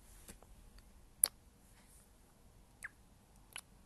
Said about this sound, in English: I'm gonna be typing right in your ear, but that's what you want.